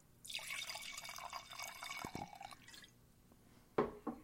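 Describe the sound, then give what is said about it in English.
Liquid pours out in a steady, splashing stream for about two seconds, then trickles off, followed by a short pause and two sharp clinks like a glass being set down. No one speaks. “I think we need to pour one out for Hedwig.”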